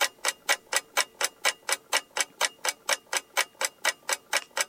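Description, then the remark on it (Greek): A wind-up mechanical clock in a house ticks steadily, about four even ticks per second with crisp, bright clicks, with no other sound around it. “Αυτό το ρολόι το βρήκαμε στην αγορά.”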